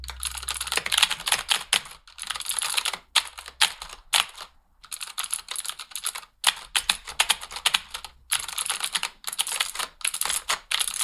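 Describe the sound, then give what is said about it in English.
A person imitates someone's frantic typing by typing a couple of words and then flapping their hands at a computer keyboard: dense bursts of keystrokes broken by brief pauses, fairly loud, with no talking. “It just had a quality of feeling like she would type a couple words and then just flap her hands at the keyboard.”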